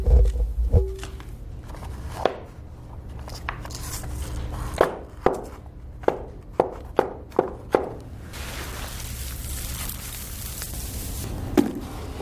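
Foley horse hooves, made by working shoes on stones or sand, clop in a loose, uneven series of sharp knocks on hard ground, with a brief saddle creak from rubbed leather at the start and a steady dry rustle of hay toward the end.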